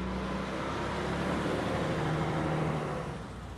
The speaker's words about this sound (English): It's back-to-back traffic, and I just want a parking spot.